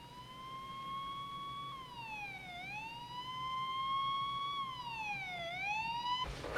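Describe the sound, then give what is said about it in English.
A wailing siren rises and falls in slow sweeps, steady and fairly loud, heard alone without any talking, like an emergency vehicle passing. “She looks at her hand, then nervously in the direction of the siren.”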